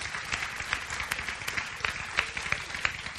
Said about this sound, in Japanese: Can we just God, give God a round of applause, everyone? 神様に拍手したいと思います。